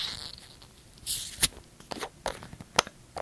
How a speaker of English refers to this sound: All right, well, let's give it a shot here. This is definitely a twist-off cap. There's no way that I can get this cap off any other way.